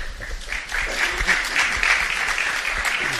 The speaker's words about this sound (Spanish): Ha habido aplausos